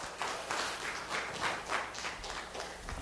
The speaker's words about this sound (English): Give Jesus a round of applause this morning, okay?